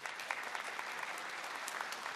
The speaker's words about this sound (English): Let's have a big hand